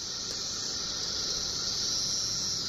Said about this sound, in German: Das ist jetzt ein Baum, auf dem Tausende von diesen Zikaden sitzen. Ein riesiger Schwall von Singzikaden veranstaltet ein Konzert auf einem Baum. Dieses Musikspektakel findet alle 17 Jahre im Mai oder Juni statt.